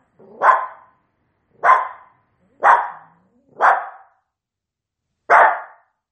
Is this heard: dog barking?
yes